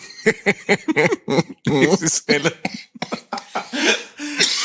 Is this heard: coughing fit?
yes